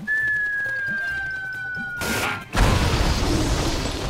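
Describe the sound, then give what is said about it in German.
A cartoon-style bomb explosion of a round black bird exploding like a bomb in a film: a steady whistle slides slowly downward for about two seconds, then a loud blast erupts and trails off into a crackling, rumbling roar. “Nee, ich wollte einfach nur mal zeigen, wie es klingt, wenn so ein Vogel explodiert im Film.”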